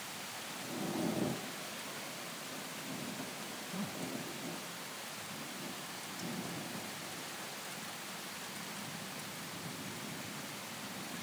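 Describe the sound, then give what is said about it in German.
Heavy rain pours down in a steady, dense hiss, with a few soft low rumbles rolling now and then; no one speaks. “Schon wieder mehr mit dem Regen.”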